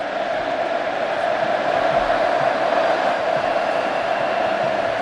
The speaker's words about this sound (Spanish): Y ahora el público entregado con la reverencia y gritando Messi, Messi, lo escuchamos.